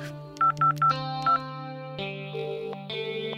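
Four quick phone keypad beeps as someone dials a phone call, then a bright tonal musical backing continues on its own with no voices.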